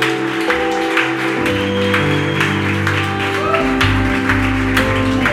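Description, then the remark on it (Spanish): An audience claps steadily throughout in applause to the name of Jesus, a dense, sustained wash of applause while a keyboard holds low, droning chords underneath. “¿Alguien puede levantar un aplauso al nombre de Jesús?”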